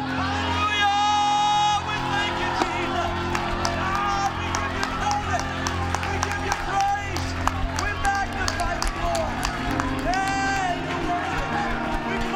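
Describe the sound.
A church audience clapping steadily and shouting praise to God together, loud, with raised voices and whoops rising over the continuous clapping throughout.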